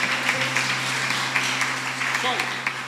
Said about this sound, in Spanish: Vamos a darle un aplauso para que se anime, porque trae una cara de que vamos, venga, vamos, venga, venga, venga.